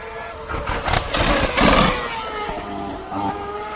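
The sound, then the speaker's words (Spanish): Fernando Alonso's Formula 1 Ferrari engine revs loudly with a burst of sharp crackling backfire pops in the first two seconds, then settles into a steadier, humming engine note. “Bueno, pues esto es lo que hace el Ferrari de Fernando Alonso. Bueno, hay un cierto petardeo, pero nada que ver con los fuegos artificiales que maneja Sebastian Vettel.”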